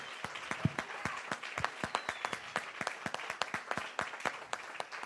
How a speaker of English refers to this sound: I'm sorry, but I feel that I need to give a big clap to my Lord. Lo siento, pero yo siento que tengo que darle un fuerte aplauso a mi Señor.